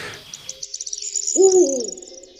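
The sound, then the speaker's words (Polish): An owl hoots once, a low, fairly loud hoot near the middle, while a faint high chirping of other birds trills steadily in the background throughout. “A generalnie sowy tej nocy także huczą?”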